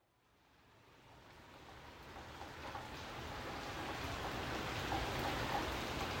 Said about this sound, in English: I'm standing under an awning in Los Angeles where it is raining.